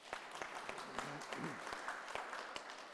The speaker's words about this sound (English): Let's round of applause again.